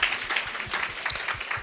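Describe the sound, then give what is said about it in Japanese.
A crowd applauds with steady, dense clapping that stays at an even level throughout, a bright crackle of many hands with no voices standing out. “もう一度拍手お願いします。”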